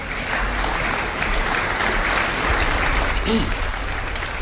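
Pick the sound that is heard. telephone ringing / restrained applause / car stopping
restrained applause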